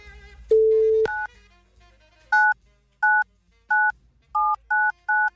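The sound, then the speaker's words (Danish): A brief steady tone, then a series of short, crisp telephone keypad beeps, seven presses in an uneven rhythm with the last few quicker. Loud, with no voices. “Du ringer til Majbel.”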